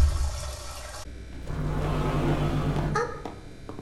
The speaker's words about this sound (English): Yes, it will rise. It will rise. It will fill the tank.